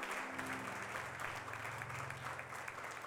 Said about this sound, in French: Vous pouvez applaudir le Seigneur. J'invite à le faire.